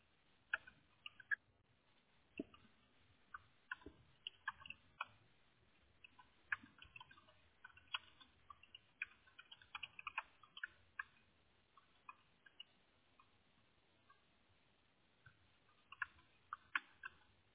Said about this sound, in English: Yeah, that's why I'm typing through. You can hear me typing, man. I'm making sure everything's going through here.